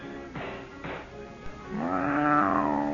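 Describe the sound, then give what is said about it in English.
A hungry cat named Kismet meows while being fed in the back room of a fortune-teller's shop: two short, quick cries followed by a longer, drawn-out, insistent meow that rises and then falls away. No one speaks. “At the moment, in the back room of her bleak establishment, the madam is engaged in a rather secular chore, feeding her cat.”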